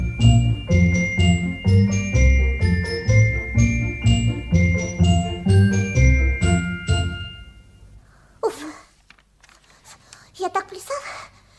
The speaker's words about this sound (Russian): Ну-ка, зайчик, попляши, всех на свете рассмеши, колокольчик зазвени, дили-дили, динь-динь-динь.